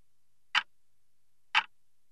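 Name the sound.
clock ticking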